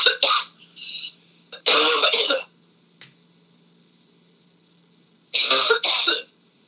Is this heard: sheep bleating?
no